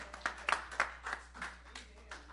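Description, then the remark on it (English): An audience at Pilgrim Branch Missionary Baptist Church claps hands in praise of Jesus at the end of a sermon, a steady run of sharp, overlapping claps from a group, with a faint hum underneath and no talking. “Come on, let's give Jesus a hand clap of praise on today.”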